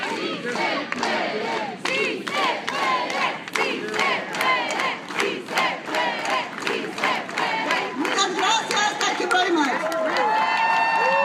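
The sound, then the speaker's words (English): A large crowd chants "Sí se puede" in unison while clapping together in a steady rhythm, loud and sustained throughout, with voices rising and overlapping in an energetic rally-style cheer. “Let's all go with an organized hand. Clap everybody together. Let's go. Si se puede.”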